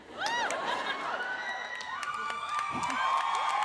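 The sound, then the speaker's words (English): A room full of people claps steadily for a few seconds, with scattered whistles, whoops and cheers rising over the applause at a moderate, even loudness. “What a polite abortion clap.”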